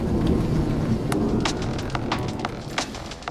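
A heavy downpour roars steadily, dense rumbling low noise with scattered sharp drop impacts and splashes crackling through it, continuous without pause.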